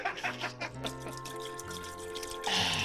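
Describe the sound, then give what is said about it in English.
Liquid glugs out of a bottle into a sink in uneven, gurgling pulses that settle into a steadier pour, then ends with a brief louder splashing rush. No one speaks. “I will pull the bottle out of the cork and drink one sink full out of it as I pour the rest of it down the glory.”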